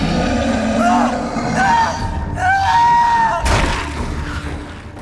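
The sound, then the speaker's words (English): A distant, drawn-out, agonized screaming wails and wavers over a dense, rumbling background, echoing as if across a great distance, then a sudden harsh, horrible tearing burst cuts in and trails off into noisy commotion. “Before Sedna could say anything, he heard a distant, agonized scream, followed by a horrible, tearing sound.”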